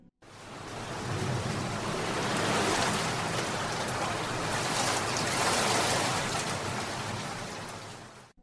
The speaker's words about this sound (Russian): Дождь хлестал по городу так, будто кто-то сверху решил устроить генеральную уборку и заодно смыть все неудобные чувства.